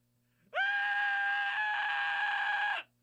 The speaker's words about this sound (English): And feel free to scream along with me. If it brings you some sense of catharsis or something of that kind. I just think it's a fun sound to make.